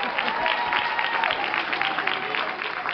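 An audience claps steadily for a few seconds, a dense, continuous patter of many hands with a faint murmur of voices mixed in.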